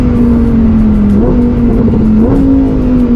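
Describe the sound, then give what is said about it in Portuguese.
A loud Lamborghini Huracán sports car engine roars with a steady, droning pitch, jumping twice as its seven-speed gearbox shifts during acceleration. No one speaks. “Uau! Esse câmbio do embreagem 7 marchas é fantástico.”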